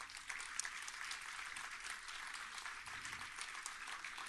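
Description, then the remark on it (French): Steady applause from an audience for a person thanked from the stage fills the whole stretch, a dense wash of many hands clapping at moderate volume with no voices standing out. “que vous pouvez applaudir très fort”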